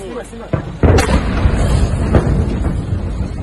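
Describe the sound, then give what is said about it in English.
A sudden, loud explosion bursts out near the start, followed by a heavy low rumble and crackling debris that keeps roaring for several seconds without fading much. “Ого! Вот это рвануло.”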